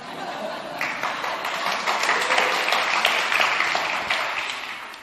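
A crowd in Klagenfurt applauds, the clapping swelling quickly to a dense, steady roar of many hands and then tapering slightly toward the end, with no voices over it.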